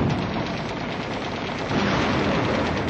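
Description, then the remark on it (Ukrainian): Dense, continuous battle noise of fire from five machine guns mixed with heavier blasts from five 45-mm guns, opened on a column on the road from Chortova Balka to Dergachi, a steady loud crackling roar with no clear pauses and no voices. “Наші артилеристи і кулеметники відкрили вогонь.”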